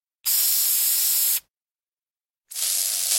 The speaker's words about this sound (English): took the furniture spray back to the restaurant and sprayed polish on all the glasses.